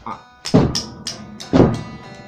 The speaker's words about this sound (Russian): А что если играть двойными ложками?